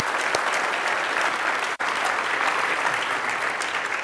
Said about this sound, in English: Can we give another round of applause to the students who shared their stories this morning?